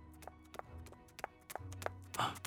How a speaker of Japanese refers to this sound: この足音は。